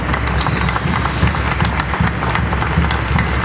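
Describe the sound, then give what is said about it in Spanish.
A crowd applauds all women who fight and do not give up, in a dense, steady wash of clapping that holds at an even loudness for a few seconds, with a low rumble underneath and no clear voices. “Y es por ustedes, compañeras, un aplauso grande a todas las mujeres que luchan y no se rinden.”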